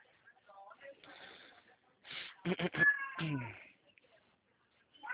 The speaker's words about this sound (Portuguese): O gatinho tá querendo atenção, né? Ele tá gritando, ele quer ir lá fora, sem vergonha, mas tá chovendo. Tá chovendo, aí não dá pra ir lá fora.